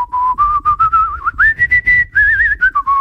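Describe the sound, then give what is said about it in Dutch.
Someone whistles a short, wandering tune, the pitch gliding up and then drifting back down, imitating a man whistling casually. No one speaks, and there is a faint low rumble underneath. “Ik zag laatst op straat een fluitende man.”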